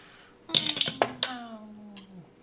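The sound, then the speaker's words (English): Dice are rolled on a table for an intelligence check in a tabletop role-playing game, clattering in a quick burst of several sharp clicks and taps, followed by a short low hum of a voice as the rolling settles. “Would you roll an intelligence check”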